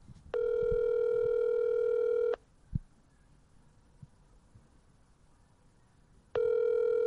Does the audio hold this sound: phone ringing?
yes